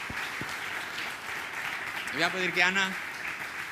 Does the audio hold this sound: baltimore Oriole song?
no